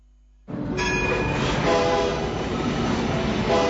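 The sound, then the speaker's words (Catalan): A rack railway train to the Vall de Núria rumbles loudly and steadily after a brief quiet start, with a high mechanical whine riding over the continuous clattering drone. “Ara és l'ocasió de pujar a la Vall de Núria, ja que el tren cremallera per nens és gratuït.”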